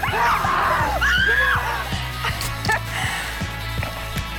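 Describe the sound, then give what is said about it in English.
High, wavering screams from several people at Six Flags Fright Fest burst out near the start and trail off after a second or so, with fainter shouts later over a steady, rhythmic low thumping. “It's hard not to be excited with an ice-cold Coke and Six Flags, so we challenged real people to make it through Fright Fest without screaming.”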